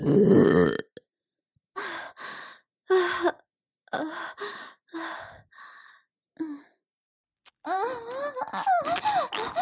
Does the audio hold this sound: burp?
yes